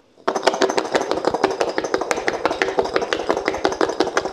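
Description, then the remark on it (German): Garlic cloves rattle hard inside a lidded container as it is shaken vigorously to loosen their papery skins, a dense, fast clatter of sharp knocks that starts abruptly and keeps going loudly without a break, with no one speaking. “Und jetzt Deckel drauf und schütteln. Angeblich sollst du es jetzt einfach ganz doll schütteln und dann geht quasi diese papierartige Haut von dem Knoblauch einfach so ab.”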